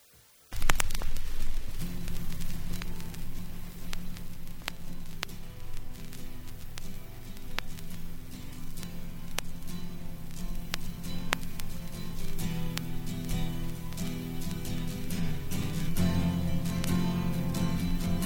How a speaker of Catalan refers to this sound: li dediquem una cançó especial d'ell i damunt la posem en vinil. Què us sembla?